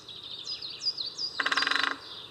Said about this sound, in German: Also die Spechte machen natürlich dieses Trommeln. Die sind ja keine Singvögel, haben also auch keinen besonderen Gesang. Dieses laute Kick.